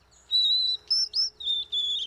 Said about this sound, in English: The serenade of a male white-throated sparrow prompts a response in a female sparrow's brain that resembles that of humans listening to their favorite music.